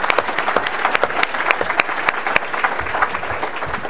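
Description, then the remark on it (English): An audience in the Bay Area applauds members of a volunteer chapter who raised money, many hands clapping in a dense, steady patter with a few sharper claps standing out, sustained at moderate loudness for several seconds. “These guys have raised a lot of money here in the Bay Area for us and deserve a round of applause.”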